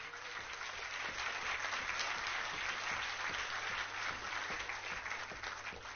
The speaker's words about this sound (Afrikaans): Dames en here, 'n besondere woord van welkom vir oggend hierso aan Jean Oosthuizen wat hier voorsit. Sal u net vir hom hande klap asseblief?